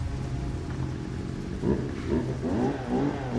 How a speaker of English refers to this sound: I'm pretty sure you don't set up a ballroom with a chainsaw. That's the power vac. They're shampooing the carpeting. You can't believe how much people spill. It's so gross. That is not a power vac, that's a chainsaw.